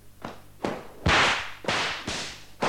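A whip lashes a horse that refuses to move, again and again, about six sharp, loud cracks in an uneven rhythm, each a bright snap with a brief hissing tail, and no voices.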